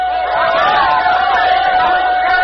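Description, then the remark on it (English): A dense, steady roar of a large crowd watching the arrival of the Tom Thumb locomotive, many voices cheering and shouting together at a constant loud level, with a faint high tone sustained underneath throughout. “Perhaps you heard it over the noise of the crowd.”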